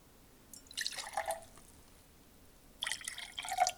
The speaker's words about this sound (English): Dip the quarter cup measuring cup in the water and pour the water into the third glass.